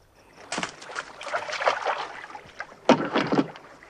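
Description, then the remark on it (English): Paddle strokes push a small boat through water, with splashy swishes and gurgles in two main surges, the second starting with a sharper dip of the blade; the boat is being paddled out towards another boat, the Amazon. “sneaks out and paddles out towards the Amazon.”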